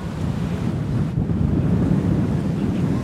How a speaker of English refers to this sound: I kind of missed this ocean feel of the waves crashing, the intense wind. It's very nice.